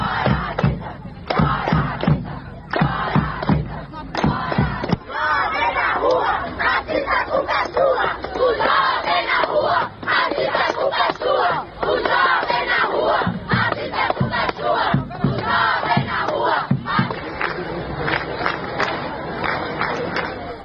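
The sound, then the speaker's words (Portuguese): A crowd of anti-racism protesters marching to a shopping mall chants slogans in Portuguese, such as "fora racistas", in unison: loud rhythmic shouting with repeated stressed beats that keeps going throughout, voices overlapping in a dense, energetic roar. “Entre os cantos estavam também frases como "fora racistas" e "jovem na rua racista, a culpa é sua".”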